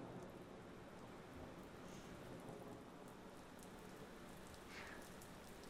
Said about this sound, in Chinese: 我其实还是很喜欢雨声的，它能让我安静下来。